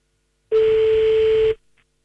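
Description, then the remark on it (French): A single steady telephone ringing tone sounds once for about a second, clear and fairly loud, then cuts off into silence, as a phone call is placed to someone's mother. There is no talking. “on appelle tout de suite Lydia au téléphone, d'accord? Ça marche. C'est parti, Dylan, on y va. Ça sonne chez maman Lydia”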